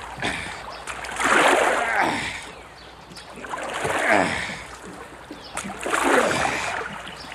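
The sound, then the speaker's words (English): Oars dip and pull through water in three steady strokes as a boat is rowed back out away from rocks along the shore, each a swelling splash and swish of churned water with quiet pauses between. “All we have to do is row back out there.”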